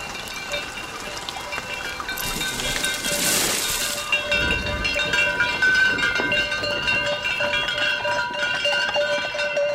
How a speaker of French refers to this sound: Sonnaille, des troupeaux, ça, c'est caractéristique au plateau. S'il y a du vent, tu arrives à les entendre à plusieurs kilomètres, les troupeaux.